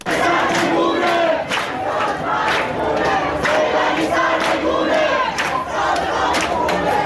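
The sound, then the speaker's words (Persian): A large protest crowd in Iran chants loudly and continuously at Thursday protests marking the 40th day since several protesters were killed, many voices shouting in a repeating rhythmic cadence with sharp bursts of cries rising above the steady roar. “بر اساس ویدیوها و گزارش‌های منتشر شده در شبکه‌های اجتماعی، تظاهرات اعتراضی روز پنجشنبه که مصادف با 40 کشته شدن چندین تن از معترضان نیز بود، در حجمی انبوه‌تر از روزهای گذشته در شهرهای مختلف ایران ادامه یافت.”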